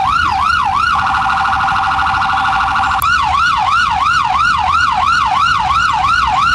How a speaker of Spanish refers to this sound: En pocos minutos llegaron los bomberos y dos ambulancias para atender la grave situación.